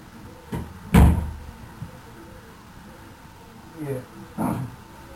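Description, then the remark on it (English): A telephone handset gets knocked off its hook in a kitchen: a sharp clatter near the start, then a couple of softer knocks and bumps a few seconds later against a quiet background. “Oh, someone else was in the kitchen. I guess they must have knocked it off the hook.”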